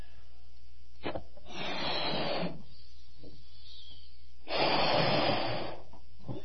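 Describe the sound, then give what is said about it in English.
During a sermon illustration, a preacher blows two long, breathy blasts of air into a balloon, separated by a pause with a faint intake of breath. The second puff is louder and fuller, and no one speaks. “I have a balloon here, all right?”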